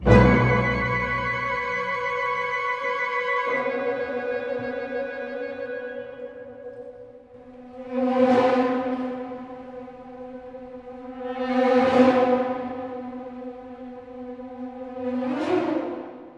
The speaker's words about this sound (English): But the overture has become a popular orchestral piece in its own right. And as Wasps are beginning to appear, I thought you might like to hear just the beginning of Vaughan Williams's Wasps Overture.